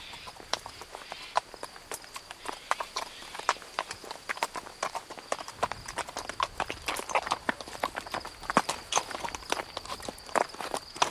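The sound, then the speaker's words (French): A corporal's horse arrives at an inn, hooves clip-clopping steadily at a walking pace, a dense run of sharp knocks that grows busier halfway through, with no voices present. “J'ai tout ce qu'il faut pour votre cheval, mais pour vous, ce sera plus difficile.”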